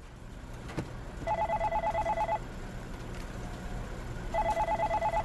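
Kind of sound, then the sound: household object, telephone dialing and ringing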